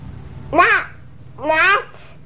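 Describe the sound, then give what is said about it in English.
A child's voice imitates a crow, giving two drawn-out, rasping caws about a second apart, fairly loud over a quiet, humming background. “It's a crow like this.”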